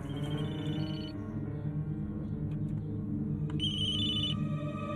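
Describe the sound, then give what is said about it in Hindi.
A telephone rings with a bright electronic trill, sounding in two bursts separated by a pause, fairly loud over a steady low hum in the background. “अभी तक फोन क्यों नहीं आया?”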